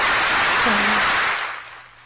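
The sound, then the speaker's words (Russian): A crowd of devotees clapping their hands together in a loud, dense wash of applause that holds steady for over a second, then quickly fades away. “Но на Украине преданные хлопают как минимум в миллион раз сильнее.”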